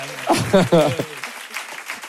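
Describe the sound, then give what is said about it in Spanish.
A voice speaks briefly, then an audience breaks into steady, moderate applause, a dense clatter of clapping that carries on to the end without fading much. “Bueno, un aplauso para él, no ha acertado mucho.”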